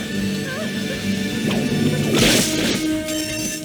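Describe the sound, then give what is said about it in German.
A single sharp whip crack snaps out loudly near the middle, a bright, explosive burst standing out over a steady humming background, then fading quickly. “Vor allem soll es uns aber zeigen, dass die Regie Peitschenhieb.mp3 vorbereitet hat.”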